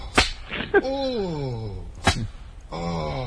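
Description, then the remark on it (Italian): Sharp whip cracks snap out three times, each followed by the deep, drawn-out moan of the man being whipped, sliding downward in pitch, fairly loud with no other talk. “che si fa frustare”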